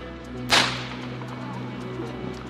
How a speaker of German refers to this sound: Und wenn die dann voll aufgeladen sind, wird das über so einen Stoßschalter auf diese Funkenstrecke abgegeben.